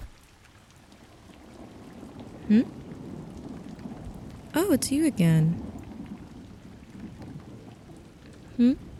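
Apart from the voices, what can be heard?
heavy rain falling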